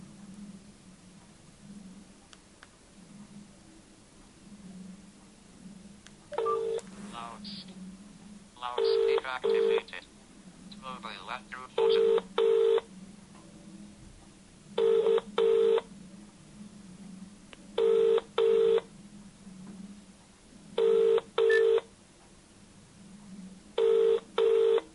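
A flurry of mobile phone keypad tones as a contact is dialed, then evenly spaced double ringing tones repeating every few seconds, played on loudspeaker, clear over a faint steady hum.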